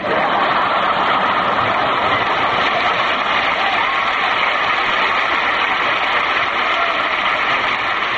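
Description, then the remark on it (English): A steady, dense roar of rolling noise, like a private Pullman train car rumbling along the rails into Victoria Station, holds at an even loudness for about eight seconds with no voices over it. “You should have heard the tremendous, tumultuous ovation I received when my private Pullman car rolled into Victoria Station.”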